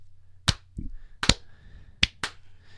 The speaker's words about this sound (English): I have to say, it's I'm gonna, you know, clap my hands, we'll slow clap.